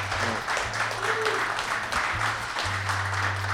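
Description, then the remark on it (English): A crowd applauds in a steady, dense wash of clapping that holds at an even level throughout, with a low hum running underneath. “Big round of applause”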